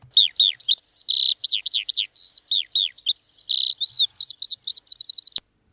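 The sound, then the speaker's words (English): A skylark sings a rapid, continuous stream of high chirps, trills and warbling notes, loud, with no pauses and no voices, ending abruptly after a run of quick repeated notes. “Yeah, well, it's the lark, yeah? The lark.”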